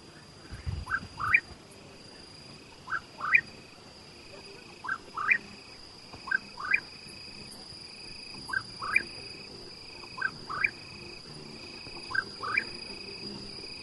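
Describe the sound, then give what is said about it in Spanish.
A cucurrí, a bird that sings only at night, sings at dusk around 7:09 pm on a windy crag in repeated short, rising two-note calls, spaced a second or two apart, over a steady background hum of insects and crickets. “cucurrí y es un pájaro que solo canta de noche.”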